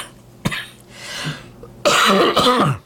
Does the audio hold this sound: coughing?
yes